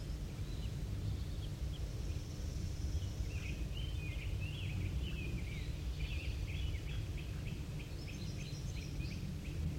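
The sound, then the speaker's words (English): A small bird, identified as bird 5-3, a female that had moved up to the top of a pine, gives a rapid series of short, high chirps and twitters, repeating for several seconds over a steady low wind-like rumble, with no one talking. “It's the one that was zitting up to the top of the pine there.”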